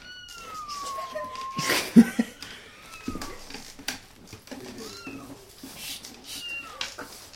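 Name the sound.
cat meowing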